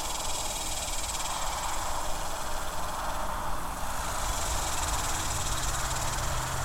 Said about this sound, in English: And you can see that now that it's officially night, the night creatures will be starting to make more noises. And we can hear a whole bunch of cicadas in the cedar elm near me.